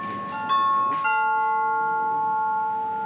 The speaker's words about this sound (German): Bis im Wartezimmer dieses erlösende Läuten ertönt, vergehen Ewigkeiten. Es ist zu hören, wenn die Nummer des sogenannten Terminkunden auf einem Bildschirm erscheint. Dazu der Platz des Beamten, an den sich die Wilmersdorferin begeben darf.